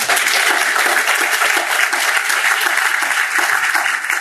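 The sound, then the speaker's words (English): An audience applauds steadily, a dense, loud wash of many hands clapping at once that holds at an even level for several seconds with no voices rising above it. “Indeed, over the past 20 years, we've seen a 20% increase in CPS graduation rates, which I think is worth applauding on.”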